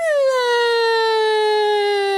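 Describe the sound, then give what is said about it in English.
A voice imitates a boy crying with a single long, loud, high-pitched wail that slowly sinks in pitch, with nothing else audible around it. “And the boy jumped under the bed and started to cry.”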